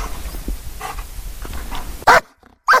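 A rescue dog, a shepherd, barks twice, sharp and loud, at the person it has found during a search in a forest, after a stretch of quiet outdoor background noise with faint rustling, leaving a short silent gap between the barks.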